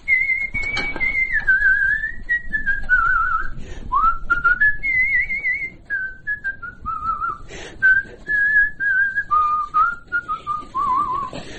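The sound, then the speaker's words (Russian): A person whistles a continuous song tune, the pitch gliding and stepping through a melodic line with short pauses between phrases, no talking. “Все, хожу и все насвистываю что-нибудь. Какую-нибудь песню вспомню, насвистываю.”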